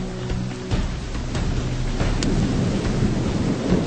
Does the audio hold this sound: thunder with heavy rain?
yes